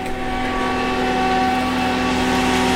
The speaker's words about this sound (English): That's the sound of potable water pumping at 100 gallons a minute.